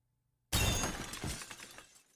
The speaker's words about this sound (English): It passed right through the shadow and hit the wall, actually making a hole as the drywall crumbled around it. The glass from the lamp flew all over the place, and I was left alone in this dimly lit room.